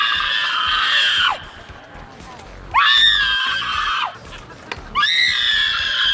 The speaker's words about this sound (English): Yeah, there's no dialogue at all. It's just a woman screaming at the top of her lungs.